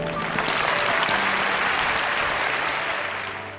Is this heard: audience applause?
yes